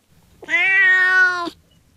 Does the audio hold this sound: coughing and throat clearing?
no